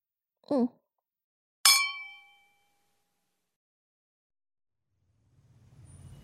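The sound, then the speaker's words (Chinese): A single bright clink of glasses touching in a toast, ringing out clearly for under a second after a brief murmur from a voice, followed by silence and then a low rumbling at the end. “老板，咱们干杯吧。”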